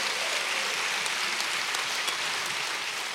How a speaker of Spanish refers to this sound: Alabado el nombre de Jesús. Denle un aplauso a Cristo, hermano. Su nombre, gloria.